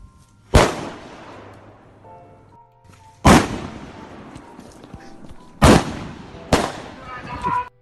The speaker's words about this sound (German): Dieselben Besucher kehrten in der Nacht zurück und warfen Feuerwerkskörper auf Rainers Hof.